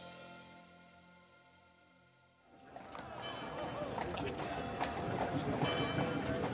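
Fading music gives way to a busy Manhattan street scene in spring 1886 where horse hooves clip-clop at a steady, moderate pace amid wagon wheel rumble and background bustle, growing louder toward the end, as Milton Hershey halts his horse and wagon outside a grocery store.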